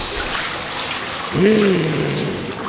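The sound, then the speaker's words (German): Water gushes steadily into a bathtub, a continuous rushing hiss, with a brief voice-like tone rising and falling over it partway through. “Wassermarsch.”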